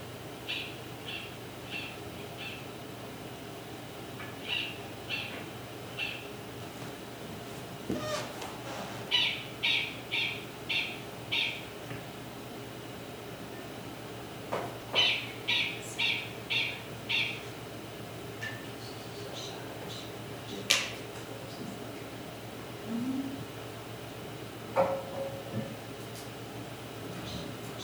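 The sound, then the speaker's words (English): Repeated high, thin alarm-call squeaks come in short bursts of three to five evenly spaced notes, pausing between groups, over a faint steady hum. Occasional sharper single chirps break in. “So they've got these little squeaks.”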